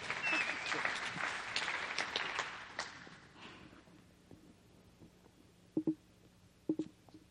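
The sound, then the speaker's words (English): An audience claps, welcoming speakers up to share about giving to World Missions, in a dense, even burst of applause that fades out after about three seconds, leaving quiet murmur and a couple of brief low thumps. “That would be a clap time.”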